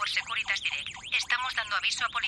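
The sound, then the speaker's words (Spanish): A home security alarm sounds its intrusion warning as someone tries to enter a protected home: a loud, shrill electronic tone that warbles rapidly up and down in repeating sweeps for a couple of seconds. “Los sensores de la alarma lo detectan antes de que entre y envían una alerta inmediata.”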